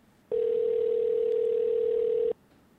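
telephone dial tone

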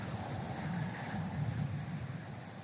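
strong wind blowing outdoors

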